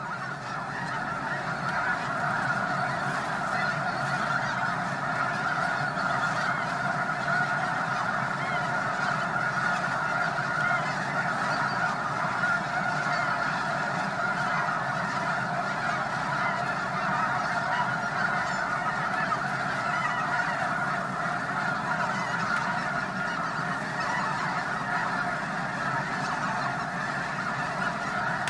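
A massive flock of black-and-white snow geese standing together and calling nonstop, hundreds of overlapping honks merging into a dense, steady roar that fills the whole scene without pause.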